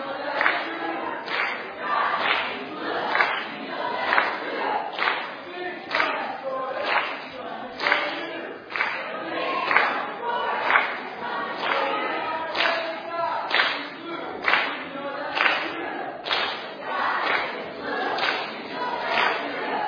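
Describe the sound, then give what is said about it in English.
An audience team, one of two sides called Blue and Green, loudly chants a quick rhythmic team cheer before the night's event starts, voices and claps pulsing in a steady beat of about one and a half per second, sustained and energetic for the whole stretch. “we've got to get one more quick cheer in for each side”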